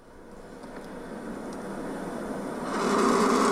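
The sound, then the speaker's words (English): A turkey vulture, or turkey buzzard, projectile vomiting: a steady, breathy rush of hissing noise that swells into a louder, harsher gush in the final second, with no voices. “And that's the vomiting.”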